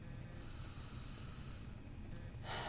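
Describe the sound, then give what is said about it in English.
A slow, deep breath drawn in with a soft, airy rush, then released in a louder, fuller exhale near the end, taken during a guided relaxation breathing exercise, with no talking. “I just want you to breathe in, breathe out.”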